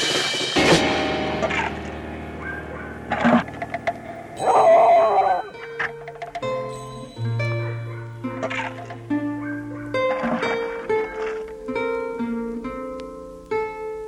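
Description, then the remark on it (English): A dog named Buck whimpers in his sleep, giving a run of thin, high whines and soft yips that rise and fall over several seconds, with no one talking. “Buck whimpered in his sleep.”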